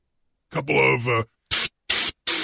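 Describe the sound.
A brief voiced noise, then three short, sharp hissing bursts in quick succession, a person imitating an aerosol spray can with their mouth, fairly loud.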